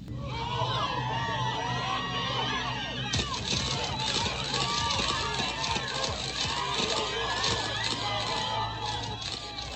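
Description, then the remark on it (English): A large crowd of men and women murmurs and gasps while a rapid staccato flurry of sharp camera shutter clicks bursts out, continuing steadily through the busy, loud commotion. “Cameras flash. Men and women gasp. Shutters click and rapid staccato.”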